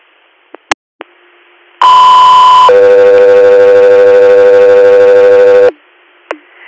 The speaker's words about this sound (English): Echo 3 Air, stand by for Tones.